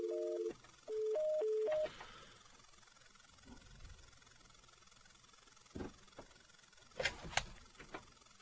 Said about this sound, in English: Can't seem to get rid of the dial tone.